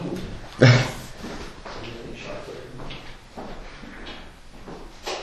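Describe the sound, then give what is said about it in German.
A door is pushed half shut with one sharp knock near the start, followed by quiet background noise, faint shuffling and a soft murmur of voices in the background. “Tür zu oder was machen? Also halb zu, so.”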